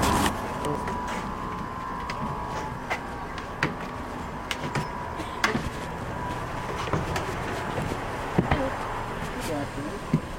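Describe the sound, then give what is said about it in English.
Inside a Toronto Transit streetcar: a steady rumble with a faint hum, sharp clunks and rattles from the car and its doors at scattered moments, and indistinct voices murmuring in the background. “So you'll hear a streetcar, subway station, subway, and a bus.”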